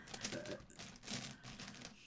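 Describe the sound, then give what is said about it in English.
Dice hurled hard onto a surface, clattering and rattling in a quick burst of clicks before settling on a one, fairly soft, with no voices. “You threw that so aggressively in there, and the fact that it went one was so funny.”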